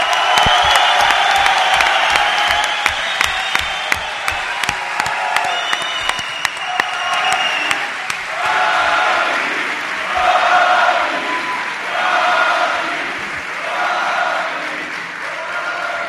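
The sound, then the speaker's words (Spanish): A crowd bursts into sustained applause with cheering and whoops to welcome Joaquín Sánchez, adopted son of El Puerto de Santa María. Dense clapping fills the first half, then the clapping thins while rhythmic chanting and cheers carry on loudly. “Pido un aplauso para el hijo adoptivo del puerto de Santa María, Joaquín Sánchez.”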